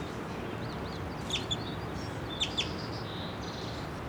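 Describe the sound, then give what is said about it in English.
Two birds, a female and then a bright male, call back and forth in short high chirps and bright whistled notes over a steady outdoor hiss, distinct, with no voices; the male is on the ground a few feet away. “Two of the birds now, the female and then the brightest male.”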